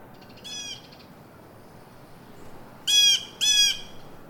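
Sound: crows cawing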